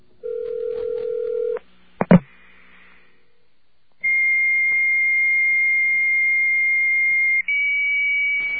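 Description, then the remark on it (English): Fax machine and modem connection tones: a steady low electronic tone, two sharp bursts, a brief pause, then a long piercing high tone that steps slightly higher near the end. Loud, no voices. “Okay, well, try to remember what the fax machine sounded like and try to remember what the other modem sounded like.”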